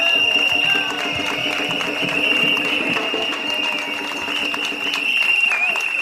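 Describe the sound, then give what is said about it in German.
A crowd at a protest against TTIP applauds and cheers steadily for several seconds, a dense wash of clapping with scattered shouts and whistles, loud and sustained throughout with no pauses. “Ich sage euch, werdet noch lauter, denn auch wenn wir jetzt gehört scheinbar werden, was unser Widerstand ist gegen TTIP, dieses ist noch nicht laut genug.”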